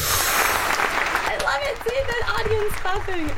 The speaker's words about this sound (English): Seeing that audience clapping, it makes me feel so good.